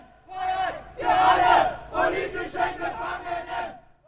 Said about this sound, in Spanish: Llueve en el gris octubre alemán. Unas 50 personas entran al tribunal de Berlín, mientras algunas otras permanecen fuera, manifestándose con canciones y gritos de protesta hacia la sala del proceso.